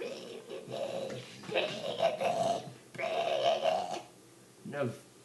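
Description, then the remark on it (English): A person makes a guttural, grindcore-style pig growl vocal in several sustained rasping bursts, fairly loud, with a brief grunt at the end, done over nursery rhyme songs. “But instead of changing the titles of the songs, I just did the pig growl to them.”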